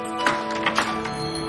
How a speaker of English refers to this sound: hangs up and opens the front door to her shop.